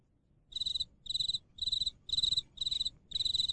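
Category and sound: insect, crickets chirping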